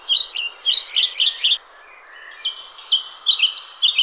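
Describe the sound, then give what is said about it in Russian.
A pied flycatcher (Ficedula hypoleuca), a black-and-white bird with a white forehead and white wing patches, sings two quick, bright phrases of high, sweet chirping notes, separated by a brief pause, clear with no talking. “Еще эту птичку зовут сорочкой и траурной мухоловкой.”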